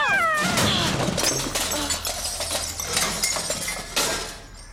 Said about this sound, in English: I didn't tell you to knock me into the garbage can while you were doing it. I didn't knock you in. You fell in.